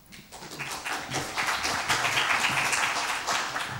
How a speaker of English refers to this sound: So yeah, let's have a big round of applause for him.